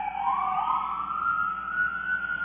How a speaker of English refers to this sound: as soon as the ambulances get by.